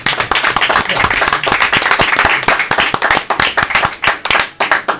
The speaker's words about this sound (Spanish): así que muy sentido y muy caluroso aplauso creo que te vamos a brindar, porque te lo mereces.